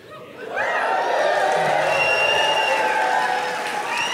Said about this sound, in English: That wasn't a prompt for applause. That's me softening the blow.